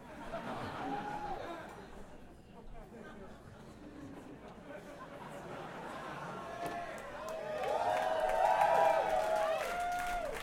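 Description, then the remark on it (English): A crowd claps and cheers in a dense, steady wash of noise, with whoops and shouted voices rising louder toward the end, reacting to someone saying they are drunk on the job. “That is really odd that you get that kind of applause, that kind of positive reaction when, you know, someone says when they're on their job that they're drunk.”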